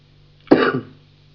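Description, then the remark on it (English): A single short, harsh cough bursts out, then fades quickly, leaving a low steady hum in the background. “Don't worry about coughing.”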